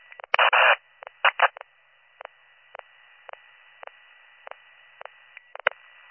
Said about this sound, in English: So, 7618, if you're trying to answer me, I'm getting in some static and a click.